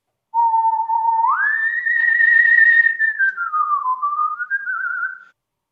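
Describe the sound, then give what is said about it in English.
A strong solo human whistle by a virtuoso whistler in a full operatic style: long sustained notes joined by smooth upward and downward slides, ending on a slightly wavering held tone, with no voices. “There's all sorts of techniques of whistling. Mine is more of a full operatic style where it's...”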